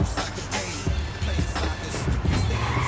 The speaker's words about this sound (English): Walking on the pavement outside the store, Cam pulls up alongside him in a Range Rover.